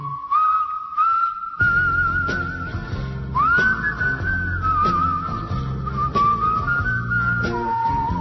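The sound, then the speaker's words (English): Someone whistles a smooth, sustained tune with gliding notes, clear, carried over a steady instrumental backing of bass and chords, with no talking. “Man, you just don't get whistling like that every day, do you?”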